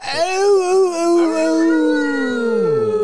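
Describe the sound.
People howl like wolves as a sign-off before playing a final song, in a loud, drawn-out wavering note, with more than one voice overlapping, then slide downward together as the howl trails off.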